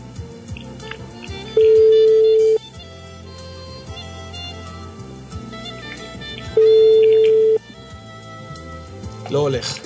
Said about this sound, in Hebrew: תקשיבי, השיחה עוברת לתא הקולי, מה נעשה? ננסה עוד פעם. אוקיי, ונשמע את הטלפון מצלצל, או שלא.